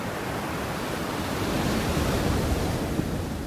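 ocean surf waves

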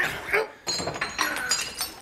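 gunshots

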